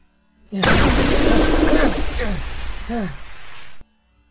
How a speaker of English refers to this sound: Holy cow! That explosion blew up so much of the town!